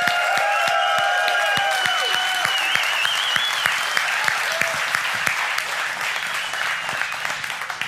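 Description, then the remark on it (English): A large crowd bursts into loud, sustained applause and cheers for the women serving and helping: dense clapping mixed with sharp whistles and cheering that rings out early, then settles into steady clapping. “Can we give them like the most loudest, obnoxious round of applause, cheers?”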